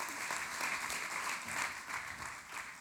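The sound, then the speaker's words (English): Steady applause from an audience welcoming a pastor up to speak, many hands clapping together in a dense, continuous wash of claps that holds at an even level throughout. “So I want you guys to give a big hand clap to my good friend,”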